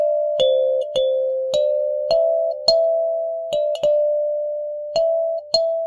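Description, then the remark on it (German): Soft electric keyboard notes, picked up electronically like a Rhodes, with bright, bell-like kalimba-like plucked attacks and a soft Rhodes-like tone, played as a slow melody of about ten notes that ring on and blend together, with no voices. “Der Anschlag klingt wie eine Kalimba, also so glockenähnlich.”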